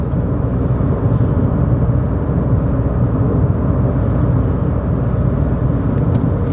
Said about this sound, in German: Und bleib gerade eine Runde dabei, fahr noch ein, zwei Sekunden mit mir Auto und dann hören wir uns gleich wieder.